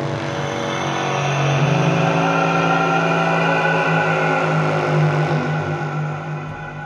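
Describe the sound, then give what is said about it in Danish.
The kællingkald, a horn on a tower in the drowned town of Bristol, is blown: a loud, sustained metallic blast holds a steady, brassy tone with rich overtones for about seven seconds, swelling slightly before tapering off at the end, with no voices. “De blæste i kællingkaldet en høj metallisk lyd, eller den her.”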